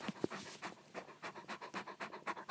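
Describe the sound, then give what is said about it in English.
A dog, Vance, pants in quick, steady breaths, about three to four per second, mixed with wet smacking sounds of it licking its lips while a treat is held behind its owner's back. No one speaks. “Right in the front, and he's licking his lips, as you can hear.”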